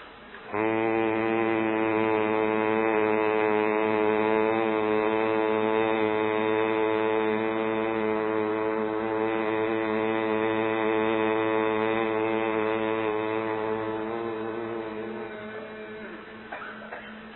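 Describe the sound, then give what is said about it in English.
A single long, steady closed-mouth hum, made while exhaling through the nose after a deep breath as a pranayama breathing exercise, held on one low pitch for about fifteen seconds, buzzing and even, then slowly fading as the breath runs out. No talking. “Take a deep breath, and then as you exhale, but with the mouth closed, you make this sound.”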